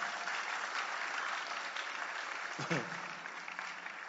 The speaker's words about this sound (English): You can give clap to the glory of God if you want to. You can.